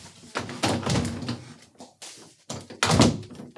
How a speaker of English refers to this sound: because I gotta close the door.